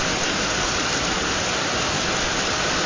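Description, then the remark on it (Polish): A steady, dense rush of rainwater streaming off a roof during a thunderstorm, a continuous hiss and splash with no breaks or voices, like heavy runoff during a downpour. “Widzę strumienie wody spływające z dachu.”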